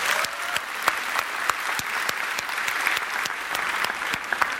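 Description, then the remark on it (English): An audience claps steadily, giving a big hand of applause for the pastors of the New Hope churches: a dense wash of many hands with sharp individual claps popping out, sustained evenly at moderate loudness throughout with no voices. “I think they should all just deserve a big hand of applause.”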